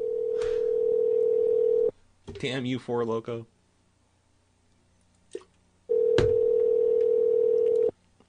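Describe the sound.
A steady, mid-pitched telephone tone sounds twice, each lasting about two seconds, with a man speaking briefly in the gap and a faint click just before the second tone.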